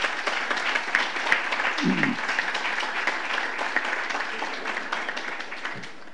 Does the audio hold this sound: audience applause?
yes